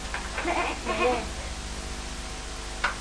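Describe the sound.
A person imitates a sheep's bleat, giving a couple of wavering, nasal 'baa' cries in quick succession, then falls quiet against a steady background hiss with a brief tap near the end.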